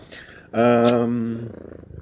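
A tomcat lets out a loud, drawn-out meow lasting about a second, rich and harmonic with a slight rise, between stretches of quieter background noise.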